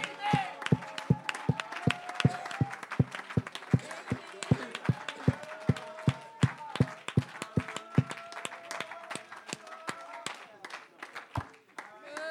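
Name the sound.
audience clapping and shouting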